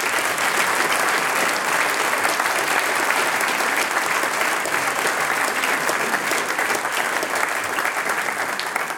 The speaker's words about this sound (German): Großer Applaus. Dankeschön.